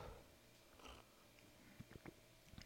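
sipping coffee

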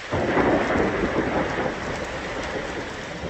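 thunderstorm with rain

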